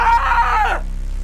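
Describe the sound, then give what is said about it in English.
In a dramatized scene, a man lets out one loud, strained scream of horror on seeing a severed head at his feet, piercing, lasting under a second before breaking off sharply into near silence with a low background hum. “He looks down to see the eyes of Tim Evans staring back at him. David screams.”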